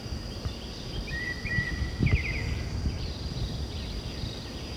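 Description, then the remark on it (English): A white-chinned thrush, presumably, sings a couple of short, faint warbled phrases over a steady, high insect drone and low rumbling background noise, recorded at 8 o'clock in the morning on 7 July. “This is white chin thrush, presumably.”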